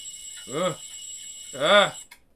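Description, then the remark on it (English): A noisy alarm clock rings with a steady, high-pitched electronic tone, then is shut off abruptly with a click. Two drawn-out vocal groans rise and fall over it. “I shut off the noisy alarm clock, climb out of bed.”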